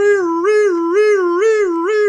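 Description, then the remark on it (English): A police car siren wails loudly and without a break, its bright, buzzy tone swooping up and down in pitch about twice a second. No voices are heard. “Oh, it's only a police car.”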